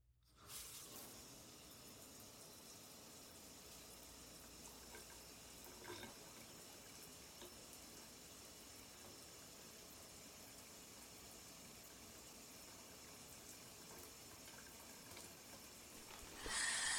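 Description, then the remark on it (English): A shower runs steadily with a broad, hissing spray of water that holds at an even level throughout, swelling louder and brighter in the final second. “Well, I finished my yoga and I wanted to take a shower.”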